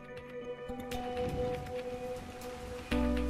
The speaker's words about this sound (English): Rain falling